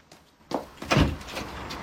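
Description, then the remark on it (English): The front door of a house is opened by Carmel as a man arrives: a soft click, then a heavier thud and rattle as it swings, followed by a low lingering rumble. No voices are heard. “A man has arrived at the house, and Carmel has opened the door.”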